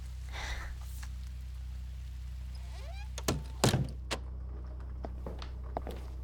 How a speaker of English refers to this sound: Fucking squeaky ass door.